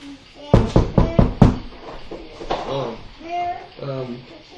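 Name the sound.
knocking on a door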